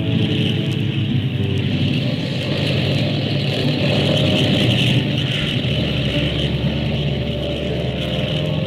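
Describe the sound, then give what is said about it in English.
Airplane engines roar steadily, a loud, sustained droning rumble that shifts in pitch partway through as they rev for takeoff, with no voices. “Airplane ready. Skyliner, flight 35, ready. Take off when ready, flight 35.”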